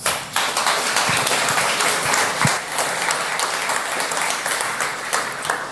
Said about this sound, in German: Einen kleinen Applaus bitte.